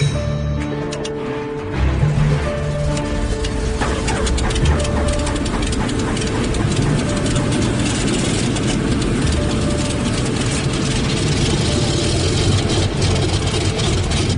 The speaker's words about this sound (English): The crew hurries to get the C-46 ready for startup, hoping that the engines haven't been exposed to the brutal cold for too long.